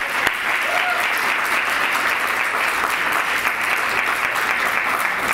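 Steady, dense applause from a large audience, many hands clapping together in a continuous loud wash of sound that holds level for several seconds without talk over it.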